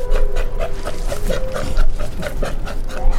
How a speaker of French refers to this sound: Aujourd'hui, le lion des mers australien.